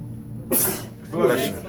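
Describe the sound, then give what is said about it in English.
A single abrupt sneeze bursts out, sharp and hissy, trailing into a second breathy gust of air as a low voice hums in the background. “Bless you. Thank you.”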